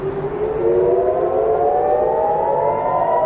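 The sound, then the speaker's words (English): Air raid sirens in Tel Aviv, triggered on Friday just after midnight local time, wail continuously, a loud sustained tone slowly rising in pitch, with overlapping sirens blending together and echoing across a wide area. No voices are heard. “Those are air raid sirens triggered in Tel Aviv on Friday, just after midnight Tel Aviv time, 2140 UTC.”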